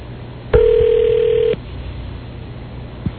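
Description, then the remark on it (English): A telephone rings once, a single steady electronic tone lasting about a second, clear and fairly loud over a low background hum, followed by quiet and a faint click. “I wouldn't be surprised if he's even just sitting there looking at the phone ringing.”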